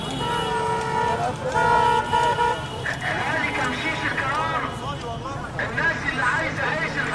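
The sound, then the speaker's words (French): Car horns blare in sustained, overlapping honks amid dense, saturated city traffic in Cairo, then give way to a loud hubbub of voices and street noise; no single speaker stands out. “J'ai jamais entendu un bordel aussi monstrueux.”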